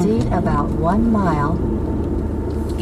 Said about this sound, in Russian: В принципе, они хоть и не такие быстрые, но, по крайней мере, там светофоры есть, и не нужно стоять в трафике. Хотя бы это все движется. Вот видите, сколько машин уже здесь на дороге.